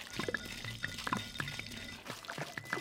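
Wet mouth sounds: lips smacking and crackling with saliva in a run of small irregular clicks and moist pops, quiet and intimate, no voice.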